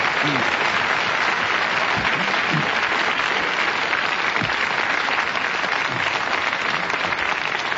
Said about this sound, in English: So give it a good clap. There they are.